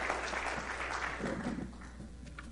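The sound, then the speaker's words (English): A crowd claps in praise together in a steady, dense patter of hands that carries on throughout and eases slightly toward the end, with no voices heard. “Give the Lord a good hand clap of praise tonight.”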